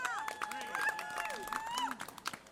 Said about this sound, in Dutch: Nou, applaus voor jezelf, zeggen ze naar de kleuterschool. Oké. Wij staan hier omdat we vrede willen in Oekraïne.